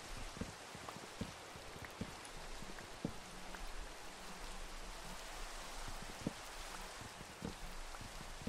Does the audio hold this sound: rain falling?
yes